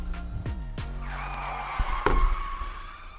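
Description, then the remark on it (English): A car skids to a stop, a long screeching tire squeal with falling tonal sweeps, followed by a couple of sharp thuds near the end, no talking. “They hit the brakes,”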